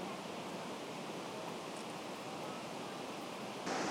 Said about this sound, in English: The waterfall has a height of 169 feet. And the source is, snowmelt in the Cascade Mountains, which are just a little further east of us here.